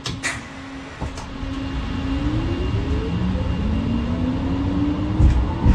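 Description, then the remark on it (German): A tram pulls away from a standstill as the driver operates the power controller with the left hand, its electric motor whining upward in rising tones over a steady low rumble, with a couple of brief clunks near the start and end. “Ich bediene natürlich die Straßenbahn nur mit meiner linken Hand, und wenn ich den Sollwertgeber bediene, um quasi die Straßenbahn ins Fahren zu bekommen, dann kommt dieses Geräusch.”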